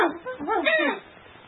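A small dog, the princess's pet dog A-yong, gives a quick run of high, rising and falling yelps and whimpers as it jumps into the room, fairly loud, lasting about a second before fading into a low, hissy background.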